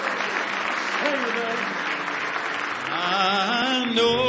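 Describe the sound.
A church audience claps steadily in praise, a dense, sustained burst of applause, with cheering voices rising over the hand clapping toward the end.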